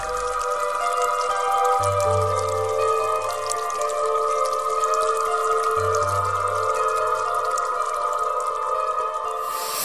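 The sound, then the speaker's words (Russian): Spring water trickles and drips steadily throughout, a busy patter of small drops over a continuous watery wash, with a low droning tone rising underneath twice. “Как только освободил ее, она сотворила родник с белыми камушками.”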